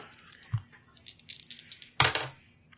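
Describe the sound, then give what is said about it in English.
Two dice are rolled and clatter across a hard tabletop in a flurry of small clicks and taps, ending with a sharper rattle as they bounce and settle, coming up 5. Brief and fairly faint, with no voices. “So that is a 5 that you rolled.”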